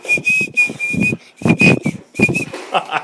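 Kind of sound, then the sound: human body sound, person whistling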